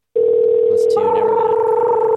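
signal or alarm, telephone ringing

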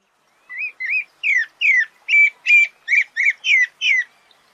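bird, sabiá thrush singing

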